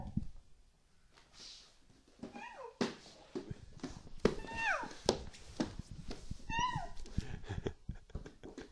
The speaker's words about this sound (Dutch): Poes wordt heel speels. En nu komt er een speeltje bij.